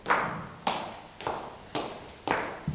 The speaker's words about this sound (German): Da hörten sie Schritte.